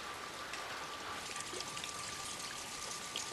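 Steady evening rain pattering on surfaces all around outside the front door of a house, a dense, continuous hiss of drops with occasional closer splashes, heard alone with no voices.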